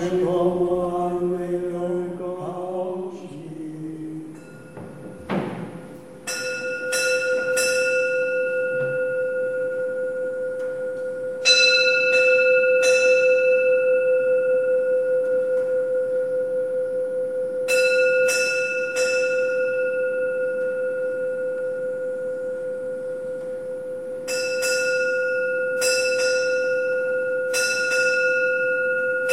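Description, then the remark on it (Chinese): A church bell, rung before a meal, rings out in clusters of three quick strikes, each group separated by a pause, its long humming tone sustaining loud and clear throughout with no voices present. “在这之前呢，我们准备要去吃饭了，等一下的那个钟声是我最喜欢的钟声了。”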